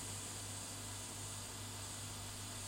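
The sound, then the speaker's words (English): A home air conditioner, just switched on by a Google voice-assistant command, runs its fan with a steady, constant whoosh and a low electrical hum beneath it. Fairly quiet and unchanging throughout, with no voices. “And I heard the beep on the air conditioner and the air conditioner is now on. You can probably hear the fan in the recording.”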